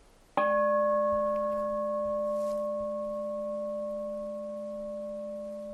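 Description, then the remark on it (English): A single meditation bell is struck once, giving a sharp onset followed by a long, steady ring of clear layered tones that slowly fade over several seconds, with no talking. “Samadhi, just a little bit of collectedness around the sound of the bell or the sound of my voice.”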